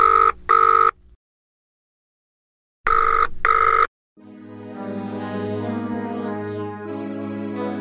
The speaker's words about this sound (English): When the phone rang, George sat up